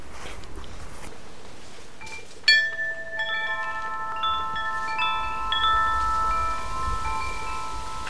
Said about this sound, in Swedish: Det är ett litet klockspel som börjar spela i vinden här uppe i ett av träden.